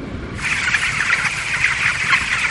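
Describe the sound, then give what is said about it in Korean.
A dense, steady chorus of many chickens clucking and cheeping at once in Mr. Richardson's automated poultry farm, which raises a million chickens a year, starts after a brief quiet moment and carries on loudly throughout, with no talking. “리처드슨 씨는 이런 최신 시설에서 1년에 100만 마리의 닭을 키운다고 하네요.”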